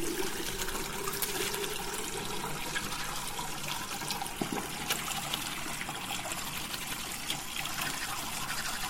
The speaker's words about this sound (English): After I made my coffee, I decided to save time, so I brought my coffee to the bathroom and have a shower. And as I was having a shower, also brushed my teeth.